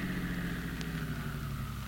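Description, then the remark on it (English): A car engine idles as the car is stopped, with a steady, low rumbling hum that holds evenly throughout, moderately loud, with no voices. “Now stop your car.”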